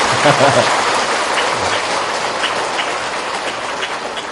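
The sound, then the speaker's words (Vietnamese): A crowd of more than 3,000 people applauding steadily at Tường Vân monastery, a dense, continuous wash of clapping that holds at a fairly loud level throughout, with a brief voice audible near the start. “Tiếng vỗ tay của một người đã làm cho mừng, hoan hỷ, phấn khởi trong lòng rồi, mà tiếng vỗ tay của hơn 3.000 người tại tu viện Tường Vân này không biết điều gì diễn tả cái xúc cảm vui mừng trong lòng của Thầy.”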